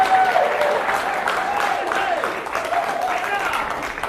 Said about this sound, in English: Let's give him a nice... He likes clapping.